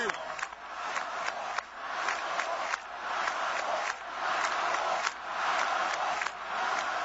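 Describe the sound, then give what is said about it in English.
A large crowd chants "Obama, Obama" in a loud, steady rhythm, played in reverse so the repeated syllables come out garbled and unintelligible, with a dense roar of many voices throughout. “They're chanting Obama, Obama. Now, let's listen to it backwards.”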